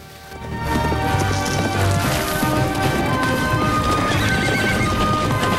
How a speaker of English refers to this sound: The Mustangs streak across the countryside as Tyler and Jesse ride behind them. Jordan chases after them.